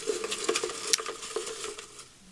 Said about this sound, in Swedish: Då har vi dragit en hopvikt papperslapp